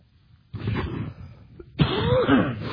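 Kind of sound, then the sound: human body sound, coughing fit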